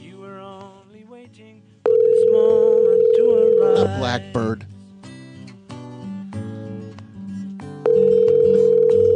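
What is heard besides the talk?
telephone line ringing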